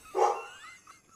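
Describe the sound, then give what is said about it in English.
A female dog gives one sharp bark at the door as someone arrives, which trails off into a faint, quieter whine. There are no voices. “Go get that dog.”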